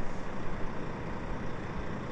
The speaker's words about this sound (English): Oh. Sounds like a lorry. Wow, it's huge. I'll just stay here for a minute while that decides what it's doing.